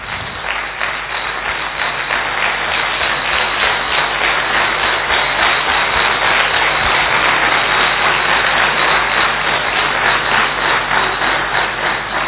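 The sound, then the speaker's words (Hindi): Sustained applause from a large crowd, a dense, even roar of many hands clapping that stays loud and steady for the whole stretch with no voices breaking through. “आपकी तालियां बता रही हैं कि आप एनर्जेटिक हैं और सदा मुस्कुराते रहेंगे।”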